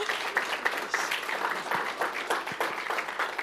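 A crowd applauds steadily, many hands clapping in a dense, continuous patter that stays fairly even for a few seconds, moderately loud with a roomy feel.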